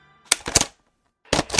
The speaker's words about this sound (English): That's the sound of a 25 max dart drum.